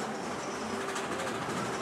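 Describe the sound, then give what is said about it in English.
A swinging blue car of the Wonder Wheel ferris wheel slides along its metal tracks with a steady rumbling roll and a faint sustained metallic hum, continuous for under two seconds with no voices. “It's on tracks and slides like a roller coaster.”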